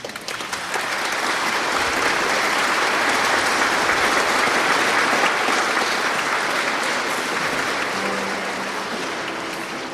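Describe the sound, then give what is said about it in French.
An audience in the church of Saint-Charles applauding together, a dense, steady wash of many hands clapping that starts quickly, holds strong for about ten seconds and begins to thin slightly at the end, with no talking. “On peut vous applaudir.”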